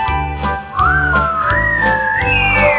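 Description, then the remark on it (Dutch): A single whistled tone imitating the wind glides slowly up and down, rising and falling like a gust of wind, clear over a steady low background hum. “En de wind die maakte een geluid. Het leek wel op een fluit.”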